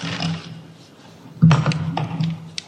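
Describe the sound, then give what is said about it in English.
Crinkling of a brown paper bag, then a sudden metallic clatter and clicking as an unset spring-loaded animal trap is pulled out of it and handled, with a low steady hum underneath. “So this is my brown paper bag. And the trap is not set, so I can get it out here.”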